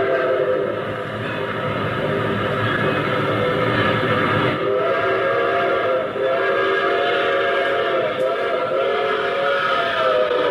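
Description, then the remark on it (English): A train draws near with a sustained, loud whistle blaring over the steady rumble and clatter of the rails, building in presence as it approaches. “The very first sound, if you remember, is the train approaching.”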